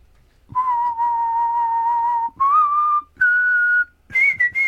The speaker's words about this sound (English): So, I'm going to do a whistle. Yep. You have to guess what the song is.